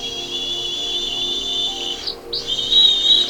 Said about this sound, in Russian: Ежик встал, потянулся лапками вверх, достал свистульку и засвистел.